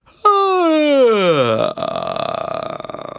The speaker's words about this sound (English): Not only will this develop a stronger connection from chest to head voice and head to chest voice, just yawning as you go up and yawning as you come back down, but it will also relax your voice going through the bridges